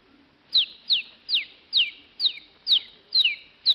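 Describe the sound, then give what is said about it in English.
A one-day-old rooster chick peeps repeatedly, about eight high, descending cheeps at a steady rhythm, fairly loud with no other sounds. “The Life of a Rooster in four parts. One day, 4 months, a year”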